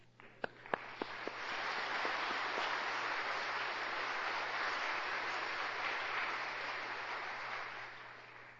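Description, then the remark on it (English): An audience breaks into applause as a clap offering to God for the music, starting with a few sharp individual claps before swelling into steady, dense clapping that holds at an even level until the end. “I think for our music, we ought to give God a clap offering, don't you?”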